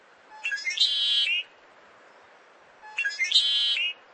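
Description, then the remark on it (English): Birds sing in two clear, matching phrases, each a bright, rapid run of high whistled notes lasting about a second, separated by a short pause, fairly loud against a quiet background. “Stick around long enough, and the music will begin again.”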